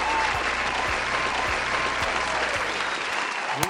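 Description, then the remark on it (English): Steady, dense applause from a sizable audience fills the whole stretch, many hands clapping at once in a continuous wash without pause, fairly loud. “Let's keep some clapping going.”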